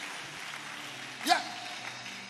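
An audience claps their hands for Jesus, a steady, dense wash of soft applause with a brief louder burst partway through.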